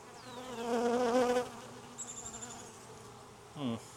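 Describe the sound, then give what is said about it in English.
Honeybees buzz around hive boxes, a dense droning hum that swells for the first second and a half, then thins to a wavering whine, with one louder bee zooming past near the end. “Which also makes sense with why are there more bees over here?”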